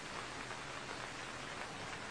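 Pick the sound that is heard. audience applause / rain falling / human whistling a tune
rain falling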